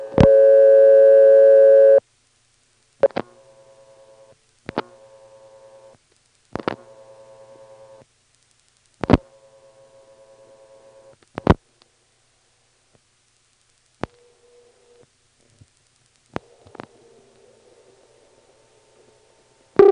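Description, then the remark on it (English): A telephone ringback tone of a ringing number in Ramsar, dialed locally: a longer opening tone, then several buzzy one-second rings separated by short pauses and sharp clicks, fairly loud and with no talking. “So now, without further ado, here's a ringing number in Ramsar, dialed locally, of course.”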